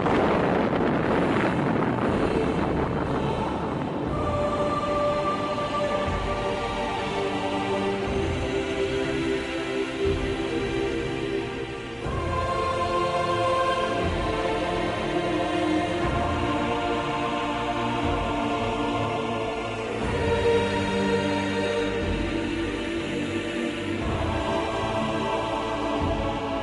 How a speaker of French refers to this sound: Ici la Défense nationale, voici en toute première mondiale, puisque c'est le document original que nous vous faisons entendre, le bruit de l'explosion de la première bombe atomique française.